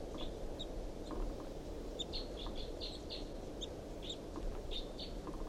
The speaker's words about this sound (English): The bird is unseen by me now. It's up in the top of this tall pine above the truck, pointed up at the wild bird. Wild bird calls, responds by decoys. Chitter by the wild bird.